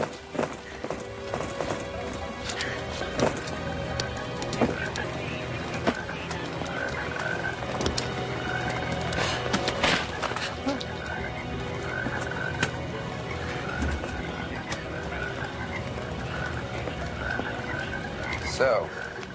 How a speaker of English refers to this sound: toads just fell from the sky. I guess their parachutes didn't open.